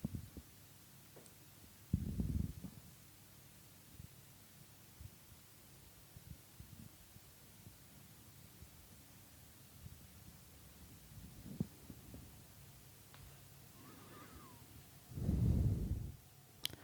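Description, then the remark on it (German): A few deep, muffled thumps of a slow heartbeat, spaced far apart over a quiet low hum, with the strongest beat near the end. No one speaks. “Welche Kraft, welche Intelligenz, welche Energie uns umgibt, die uns alle mit diesem Herzschlag verbindet.”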